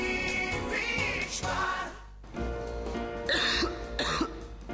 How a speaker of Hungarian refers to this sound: A köhögés sosem jön jókor, de legyen szó száraz, irritáló vagy makacs, hurutos köhögésről, a Robitussin köhögés csillapító és köptető termékei hatékonyan segítenek leküzdeni.